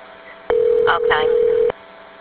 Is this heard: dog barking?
no